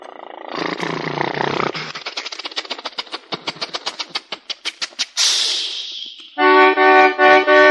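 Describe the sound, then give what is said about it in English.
In a sung verse about a little car, a voice imitates the car: a rough rumbling start, then a quickening string of sputtering putts, a breathy hiss, and three loud, buzzy horn-like honks. “My little car goes...”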